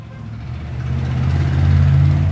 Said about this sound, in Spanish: Es tarde en la Ciudad del Carmen, en México. La hora pico ya empezó. El tráfico pesado como este es algo nuevo aquí.